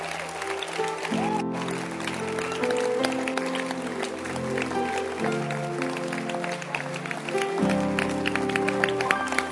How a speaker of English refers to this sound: Clap your hands for Jesus. Don't stop clapping.